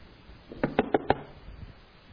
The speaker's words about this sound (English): Finally, that knock goes away. Whew, finally.